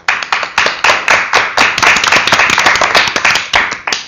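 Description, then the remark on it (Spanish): Audience applause on the interview show Célebres Entrevistas, welcoming the guest E.T. the extraterrestrial: a dense stretch of many hands clapping at a brisk, steady pace, fairly loud and sustained for about four seconds with no voices over it. “Un gran aplauso para el magnífico, extraordinario e increíble E.T. el extraterrestre.”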